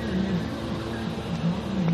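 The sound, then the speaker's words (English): A garbage truck parked beside the road idles steadily, a continuous low diesel rumble with a droning hum that holds even throughout, with no voices. “Garbage truck parked beside the road, going over his route notes.”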